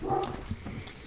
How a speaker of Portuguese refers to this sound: Se vocês ouvirem a minha cachorrinha latindo, é a opinião dela, viu?